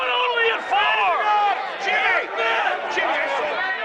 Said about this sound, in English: Remember when the stock market was people screaming and yelling?